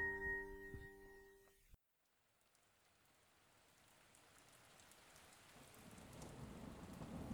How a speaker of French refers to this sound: Dans le silence troublé par les coups de tonnerre